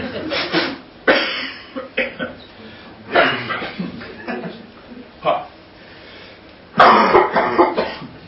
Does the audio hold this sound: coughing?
yes